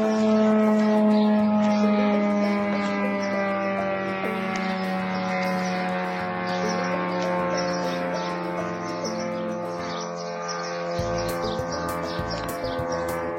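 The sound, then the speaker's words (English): A drone from Iran flying toward Israel, its two-stroke engine buzzing loudly and steadily, a rich, nasal drone that holds its pitch for about ten seconds before dipping slightly and shifting near the end. No one speaks. “Do you notice it kind of sounds like a little boat with a little two-stroke engine?”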